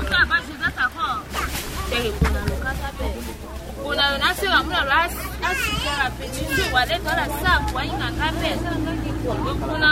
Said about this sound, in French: À côté, les autres commerçantes discutent sur leurs problèmes.